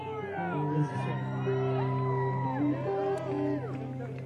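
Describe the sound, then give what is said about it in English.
A voice in the audience yells out loudly over a lively crowd, with sustained whoops and shouts mixing into a steady background of cheering, as audience members yell to request a song. “Request that somebody was yelling.”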